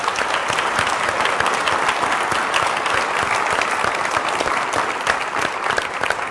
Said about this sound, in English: I want to say a special thank you to our veterans. If you would please just give them a quick round of applause.